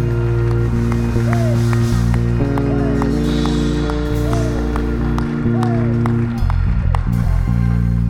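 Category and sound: crowd, audience clapping hands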